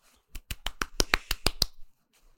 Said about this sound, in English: That's the applause.